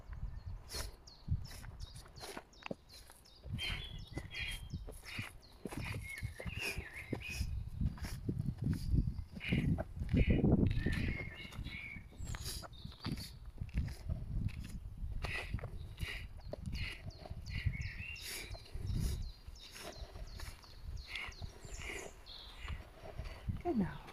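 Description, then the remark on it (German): A woodpecker taps in a forest during a walking meditation, its sharp knocks scattered among crunching footsteps and bright chirps from other birds, all soft. “Spür gerade den Specht hier im Wald.”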